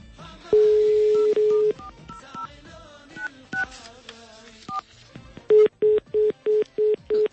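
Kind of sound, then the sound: signal or alarm, telephone dialing tones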